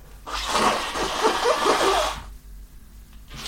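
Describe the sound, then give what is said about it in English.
Someone blows their nose, away from the microphone, in one long, forceful burst lasting about two seconds, a loud breathy rush with squeaky, wet honking tones, followed by near silence. “I'm going to blow my nose now.”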